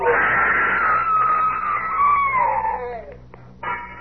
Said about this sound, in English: I wish I never heard that scream.